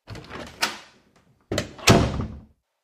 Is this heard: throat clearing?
no